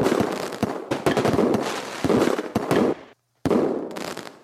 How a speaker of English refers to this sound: I hope everyone had a safe and festive 4th of July here in the U.S. I went to a couple fireworks displays, and they were pretty good.